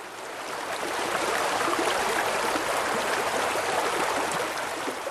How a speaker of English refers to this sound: It's just a lovely stream